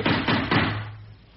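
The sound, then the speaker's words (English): Three heavy, dull knocks on a wall, made by a woman knocking, in quick, even succession, each thudding and booming before fading into a low lingering rumble. No voices accompany them. “She's knocking on the wall.”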